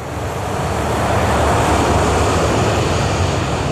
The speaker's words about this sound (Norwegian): Nå ser han avkjøringen litt lenger fremme til venstre, og begynner å svinge skarpt, mens de ser KLM-flyet dundre mot dem.